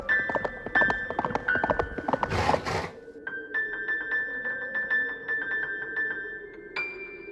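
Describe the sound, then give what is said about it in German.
Hooves clip-clop at a steady walking rhythm throughout, over a sustained high tone. A short, loud, sneeze-like burst of noise interrupts them partway through. “Hat, glaube ich, so Hufe und braucht dringend ein Taschentuch.”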